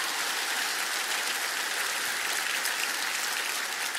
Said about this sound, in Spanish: Vamos a dar un aplauso al Señor. Es necesario en esta parte.